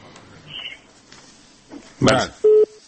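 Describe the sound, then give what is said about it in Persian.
A phone line clicks and crackles as a call connects, followed by a steady electronic beep tone, with faint background noise but no talking. “بله تاسی در تلفن.”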